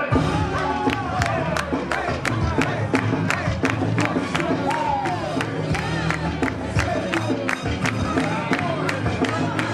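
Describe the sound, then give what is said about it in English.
A loud, dense crowd cheers and shouts continuously at a Jukin hip-hop dance battle between the Beat Your Feet Kings and the Memphis Jukin Elite Team, with sharp, regular beat-like hits punching through the roar and scattered voices yelling throughout. “That's the Beat Your Feet Kings taking on the Memphis Jukin Elite Team in a competition of the hip-hop dance style Jukin.”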